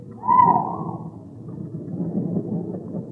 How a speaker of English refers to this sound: The gasp was from a mother whose son had number 158. A scene none of us will ever forget.